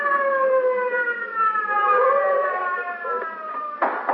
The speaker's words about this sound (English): I got into the car and was driven to the scene of the occurrence with siren wide open.